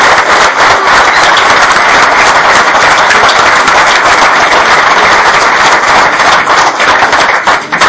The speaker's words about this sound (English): So I would like us to extend a round of applause to all our vendors who contributed.